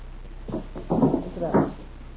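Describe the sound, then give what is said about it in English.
A window being pulled shut, with a short creak and two heavier sliding thuds over about two seconds, moderately loud, no voices. “One thing I forgot yeah. to close that window. It's awful cold in here.”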